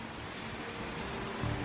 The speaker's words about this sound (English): Some cars crawled through floodwater that came up to their windscreens. Others were left abandoned.